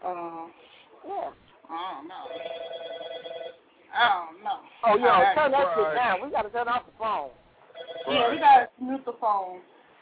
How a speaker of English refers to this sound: Oh, no. We gotta turn off the phone. Right. Yeah, we gotta mute the phone. Now it seems like, you know, everybody wanna call.